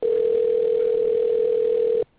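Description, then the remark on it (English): A phone line tone from a call being placed to a guest: one steady, loud, mid-pitched hum that holds unbroken for about two seconds, then cuts off abruptly. No voices. “You may hear the phone dialing in.”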